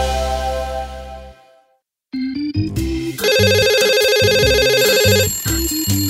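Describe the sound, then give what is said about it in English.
A sustained musical chord fades into a moment of silence, then a loud, bright electronic phone ringtone plays a repeating melodic phrase, with no one speaking. “Will someone answer the damn phone?”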